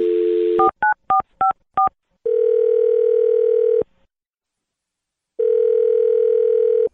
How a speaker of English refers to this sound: I'll dial the phone number right now and good luck.